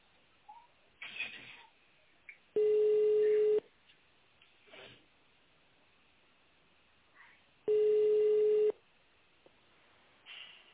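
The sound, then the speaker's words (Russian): Two steady, mid-pitched telephone busy tones after a dropped call to the company Tsirkonservis, each lasting about a second and separated by a long pause filled with faint background noise and brief murmurs. “А, сорвалось. Вот, видишь, сорвалось.”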